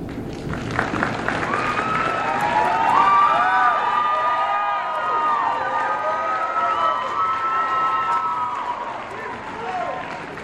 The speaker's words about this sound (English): Thank you guys for that. Everybody needs a cheering section like the clan over here. Oh, you guys are doing good. I do appreciate it.